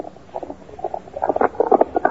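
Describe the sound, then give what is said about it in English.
A single horse galloping fast, coming down the other side of a stream: a quick uneven rhythm of muffled hoofbeat thuds in clustered bursts that swell steadily louder over about two seconds, with no voices. “Me hear hoofbeats coming down other side stream.”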